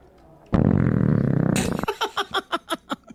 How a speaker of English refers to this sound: Was that a belch? I mean, or did my body just reject that drink?